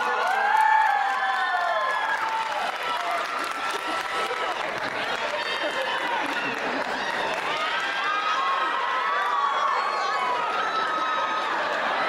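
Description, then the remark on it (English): A large crowd yells and cheers continuously about a woman's birthday, with overlapping voices, whoops and scattered applause forming a loud, dense wall of noise that holds steady throughout. “I'm walking around the crowd right now and everybody's yelling, oh my God, it's her birthday.”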